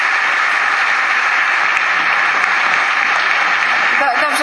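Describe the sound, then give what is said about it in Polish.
A crowd applauds loudly and steadily, a dense wash of clapping that fills the whole stretch without letting up, with a voice starting to come through right at the end. “Ja składam protest oczywiście, ponieważ nie godzi się, żeby sługa dostawał brawa w domu swojego pana.”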